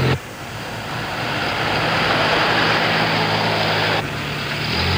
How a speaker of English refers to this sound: Ford filled Las Vegas with dealers this week to show off its 71 line, including the Pinto, a sort of a pony-sized Mustang that sounds like a bee and features an engine made in Germany.